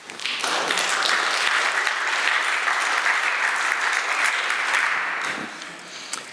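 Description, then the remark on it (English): An audience at a technical talk applauds after a software demo, with dense, steady clapping that swells in quickly, holds for several seconds, and then tapers off. No one speaks over it. “Applause is nice now.”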